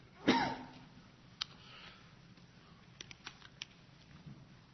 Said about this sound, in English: I think I got Joel's cough.